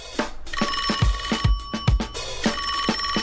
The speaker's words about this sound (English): Which is the ringing phone from ….